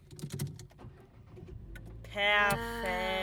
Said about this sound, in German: Soll ich mal kurz machen? Sollen wir mal einen Live-Test machen, ob das Auto noch startet? Ja.